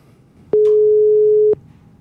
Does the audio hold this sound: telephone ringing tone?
yes